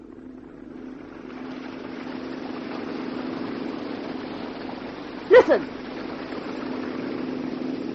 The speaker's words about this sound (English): That's a boat! A motorboat coming this way!